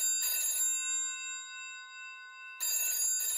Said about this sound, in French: Un jour, Marcel reçoit un étrange coup de téléphone.